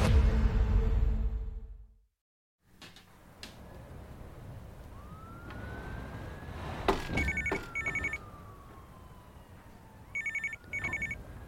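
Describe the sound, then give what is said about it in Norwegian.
A telephone rings on a January night in 1993, at a quarter past four, waking a sleeper: short double bursts, twice, fairly clear against a low ambient rumble, with a faint sweeping tone in the background; no one speaks. “En januarnatt i 1993 blir Luke brått vekket av telefonen.”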